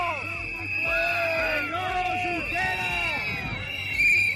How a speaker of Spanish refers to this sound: Y uno de los sonidos de esta mañana de jueves ha sido el de los independentistas abucheando al mismísimo Oriol Junqueras.